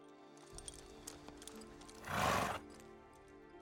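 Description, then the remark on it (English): A horse gives a short, breathy whinny, preceded by a few soft, scattered hoof clops over a low background hum. “After accepting a job to cleanse a haunted manor garden, you ride into the horizon.”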